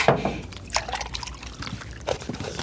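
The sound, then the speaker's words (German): Milk pours into a glass in a steady, gurgling stream lasting a few seconds, with small splashy bursts and a rising fill as the liquid level climbs. “Hier, dein Glas Milch, wie gewünscht.”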